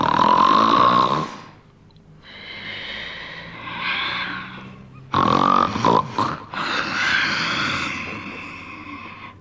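A voice imitates a giant's loud, exaggerated snoring as he falls asleep: a series of long, rasping, grunting snores with brief pauses between them, prominent, with no other sounds alongside.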